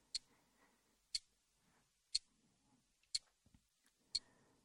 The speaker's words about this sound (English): Now, focus on the ticking that you have been listening to for a while now. The clock ticking is such a wonderful tool for this kind of session. It's rhythmic, repetitive, endless, and so very hypnotic.